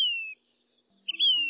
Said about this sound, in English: Their voices set them apart, too. The brisk phrases of the black phoebe's song, standing in a sharp contrast to the plaintive refrain of the Say's phoebe, with which it shares the American West.